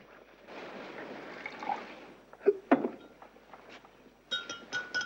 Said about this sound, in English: The staff nurse pours Oliver a glass of water.